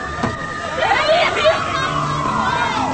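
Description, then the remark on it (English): A crowd of agitated bystanders converging after a driver has run over a man, their voices overlapping in a loud, continuous babble, with several people shouting and calling out over steady background noise. “As crowds converge, the girl's mother gets out.”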